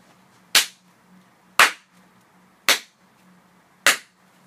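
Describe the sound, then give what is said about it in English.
Four sharp, loud hand claps spaced about a second apart, each followed by a brief ringing decay, with a faint low hum underneath and no talking; a clap test of a room's reverb. “In fact, let's do a couple clap tests now just to contrast and compare.”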